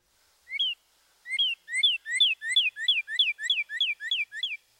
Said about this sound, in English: When comparing the two-noted phrases, listen for the cardinal's purdy, purdy, purdy.